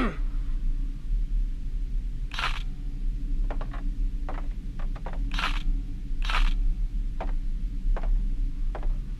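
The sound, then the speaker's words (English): Scattered sharp clicks, a few louder and fuller, others quick and thin, spaced irregularly over a steady low rumble, like a camera shutter being fired now and then inside a house. “Seven minutes pass with footsteps, camera clicks, and …'s cough the only sounds.”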